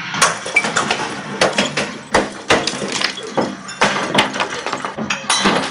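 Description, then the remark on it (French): Repeated loud crashes of glass and crockery being smashed in a smash room where visitors break objects, sharp impacts followed by bright shattering and tinkling debris, one after another over a low steady rumble. “Il y en a qui aiment bien cette sensation d'exploser quelque chose, surtout ce qui est verre et vaisselle.”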